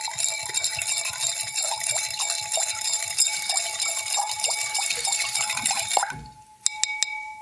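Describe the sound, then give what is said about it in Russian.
A liquid mixture is stirred steadily in a container, with a continuous swishing and faint scraping, ending in a few sharp clinks of glass. Nobody speaks. “Давайте сейчас вот пока помешаем.”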